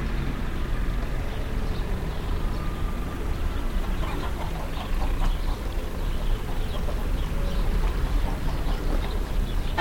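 A rooster crows in a busy morning outdoor soundscape in Serre-Marie, an agricultural town southeast of Lyon, mixed with scattered bird chirps and a steady low rumble of background noise, with no one speaking; recorded by Stephen Feld for his series The Time of Bells.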